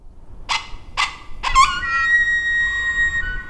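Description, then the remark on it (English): A person uses hands and mouth to imitate a wounded rabbit and a howling coyote in the Arickaree Breaks in far northwest Kansas: three sharp, evenly spaced squeals, then a long, high, steady howl, loud with no talking. “using his hands and mouth to create the sound of a wounded rabbit and a howling coyote.”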